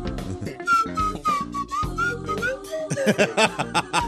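A slide whistle plays a short, wobbly tune of gliding notes, rising and falling, while people laugh and chatter underneath; the laughter grows louder toward the end.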